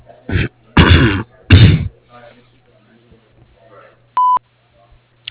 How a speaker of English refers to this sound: Sorry I missed your call, but leave a short, detailed message after the beep, and I'll get back to you as soon as I can.